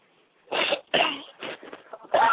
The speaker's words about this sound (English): I'm sorry. I got every time I try to speak, I start coughing, getting over a cold.